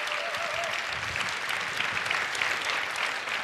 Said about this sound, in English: Thank you for your attention. Applause, applause, applause, applause.